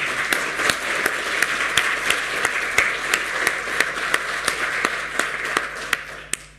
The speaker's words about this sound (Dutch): En een applaus, denk ik.